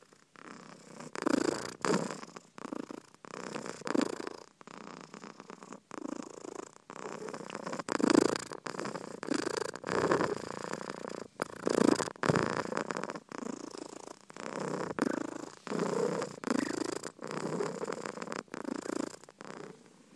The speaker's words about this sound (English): I think she's the loudest purring cat of our collection. It's almost sort of vocal, isn't it, her purring sound, but it is lovely.